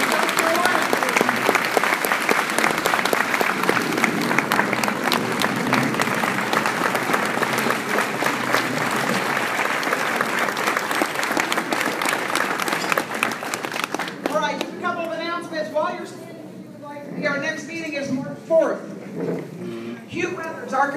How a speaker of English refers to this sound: And let's give him one more round of applause. We appreciate it.